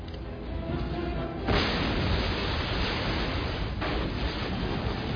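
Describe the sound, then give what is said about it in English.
A low droning rumble gives way to a sudden loud roar of special-effects explosions on a closed film set for a James Bond film, with simulated plastic metal, panels and a roof. The roar keeps churning, with a second sharp blast erupting a couple of seconds later. No one speaks. “This was tricky during these explosions in here because there was so much sort of simulated metal, i.e.”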